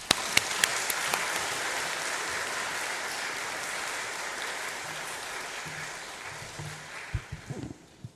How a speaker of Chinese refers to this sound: 我们再次用掌声来感谢他们。